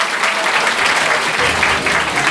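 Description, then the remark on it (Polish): An audience claps steadily and fairly loudly for a teacher awarded a medal for merit at a regional teachers' awards ceremony in Wielkopolska, Poland, a dense, continuous patter of many hands filling the whole stretch without pause. “Różyczka będzie czekała i brawa również usłyszy.”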